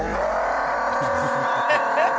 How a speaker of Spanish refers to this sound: Al lado, porque se está escuchando ruido de calle como si fueran un coche o...